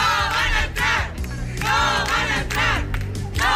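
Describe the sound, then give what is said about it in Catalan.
A neighbourhood protest crowd chants loudly in unison at people who were to be housed in a parish, voices rising and falling in rhythmic, shouted bursts that repeat several times over a steady low rumble of massed voices. “Era un càntic dirigit a les persones que volien ser allotjades en una parròquia.”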